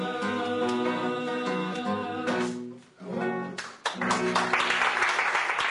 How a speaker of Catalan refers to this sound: Hem de dir als oients que és una gravació feta allà en directe, es pot dir, sense estudi, que escoltem els aplaudiments a la Villa Lola, a Mont-ras, que abans estava a Calella de Palafrugell.